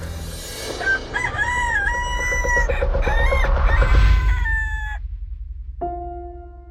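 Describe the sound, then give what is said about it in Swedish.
A rooster crows once in a long, loud, drawn-out call, rising and wavering before cutting off, over a low rumbling background; a brief tonal sound follows near the end. “Innan tuppen gal ska du förneka mig tre gånger.”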